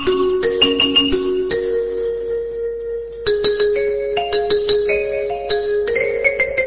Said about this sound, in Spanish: Pero saque el dedo del timbre, ¿cuánto se queda ahí tocando? Bueno, yo cuando... ¿Qué tiene, toda la melodía en el timbre?